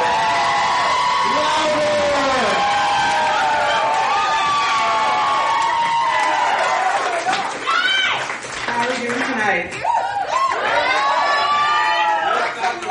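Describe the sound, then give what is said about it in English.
An audience cheers a first-time performer being introduced to the stage, loudly and steadily, with high whoops and yells rising over a dense roar of voices for the full stretch, a few sharp rising shouts standing out near the end. “Raise the motherfucking roof for”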